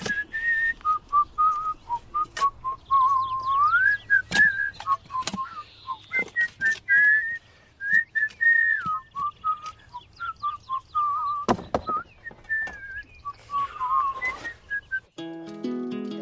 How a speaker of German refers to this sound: Kannst du denn gut pfeifen? Ja. Mach mal.